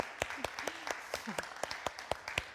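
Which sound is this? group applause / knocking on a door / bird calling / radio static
group applause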